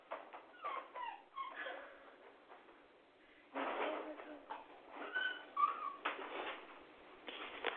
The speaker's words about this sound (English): I'm sorry, my daughter's puppy is here, and now she sees the cat. And she's having a fit. She wants to go play with the cat, but the cat hates her. And now she's making a lot of noise.